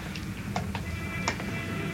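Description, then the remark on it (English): A handful of crisp footsteps tap on hard pavement at an uneven pace, over a steady low background rumble with no one speaking. “Don't you hear the footsteps?”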